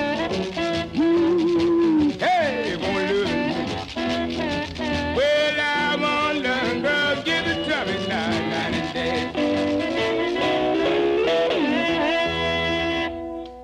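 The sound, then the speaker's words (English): A 1954 Chicago blues band recording on the Chance label plays loud and steady, with wailing, bending melodic lines over a thick rhythm backing, running continuously before cutting off abruptly at the end. “Sort of music you might hear around Maxwell Street Market in Chicago in the 50s.”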